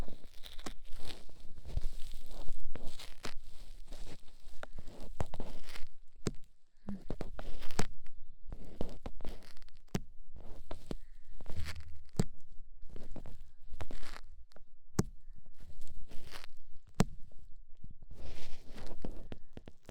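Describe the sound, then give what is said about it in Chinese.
Ear cleaning with a sticky cotton swab: steady scratchy rustling and soft crackling with irregular sharp clicks and brief pauses, fairly loud and continuous, with no voice. “嗯，掏耳朵，这是你今天表现好的奖励。你看，是你喜欢的粘性棉花棒。”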